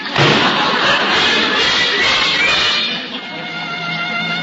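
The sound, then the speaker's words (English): A door is shut with a loud slam, followed by a few seconds of lingering rattling noise that gradually settles down. “I realized at once why she'd closed the door so gently against me.”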